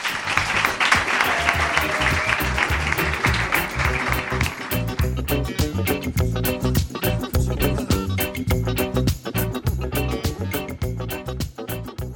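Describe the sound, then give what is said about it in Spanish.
A loud burst of audience applause for two guests on a Radio UMH programme, with dense clapping filling the first few seconds, then fading as a rhythmic music jingle takes over for the rest. “Un fuerte aplauso para ellas, chicas.”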